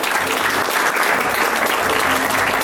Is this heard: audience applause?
yes